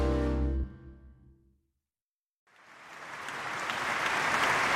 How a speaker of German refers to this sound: Voller Vorfreude spendet das Publikum in der Berliner Philharmonie nur kurzen Applaus, ganz so, als wolle es den Auftritt der beiden Künstler nicht verzögern, sondern beschleunigen.